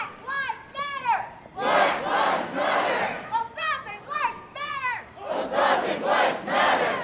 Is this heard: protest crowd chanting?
yes